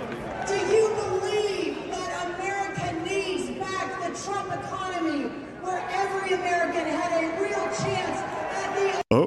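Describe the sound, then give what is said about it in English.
A large sellout crowd at a Trump rally in Madison Square Garden roars and cheers continuously, many voices blending into a loud, steady wall of noise with rising whoops, then a sudden cut near the end. “Trump packs Madison Square Garden with sellout crowd.”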